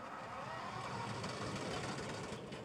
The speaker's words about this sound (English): picks up bundles of witch hazel and shoves them into the wood chipper attached to his truck, two or three big bundles at a time.